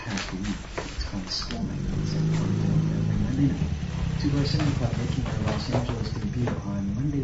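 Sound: motorcycle arriving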